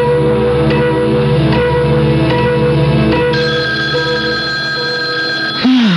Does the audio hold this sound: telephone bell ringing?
yes